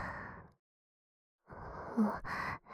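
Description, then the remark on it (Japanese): Heavy, breathy exhales picked up by the microphone, one short breath, a pause of silence, then two longer gasping breaths in quick succession, with no talking. “ところで、この息遣い、マイクに乗っちゃうかな。”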